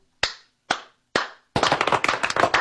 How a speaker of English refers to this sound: It's not afraid to applaud for that.